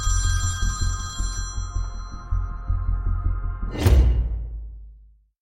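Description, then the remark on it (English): A telephone rings with a bright, steady electronic tone over a low, throbbing pulse, then a sharp whooshing burst cuts in before the sound fades out. “The phone is ringing.”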